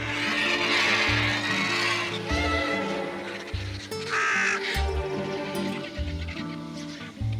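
Harsh, raspy squawks and croaking calls from a group of white-rumped vultures squabbling at a carcass whose hide they cannot open, coming in repeated bursts over a steady low musical drone.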